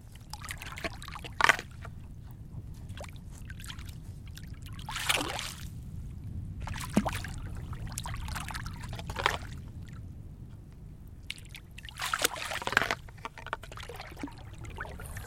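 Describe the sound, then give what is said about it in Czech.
Water trickles and gurgles steadily between stones, with a few louder splashing surges rising and fading, heard alone without voices. “Protejká mezi smínými a bezmocnými kameny, kterými voda vytejká tak, se musí se vytejkat sama.”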